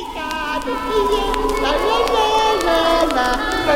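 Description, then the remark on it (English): A busy jumble of children's voices overlapping at a steady, fairly loud level, like kids playing together, with no single voice standing out. “Kids playing.”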